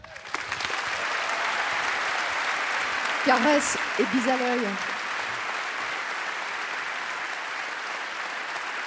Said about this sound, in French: Et je sais que ces applaudissements vont lui aller droit au cœur.